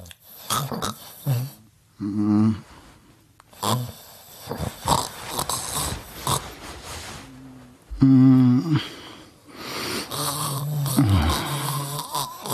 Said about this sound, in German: Schatz, du schnarchst. Das ist der Wein, der atmet.